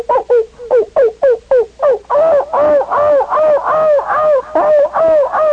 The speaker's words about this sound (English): You see this great cloud of dogs, and then the animals begin to bark.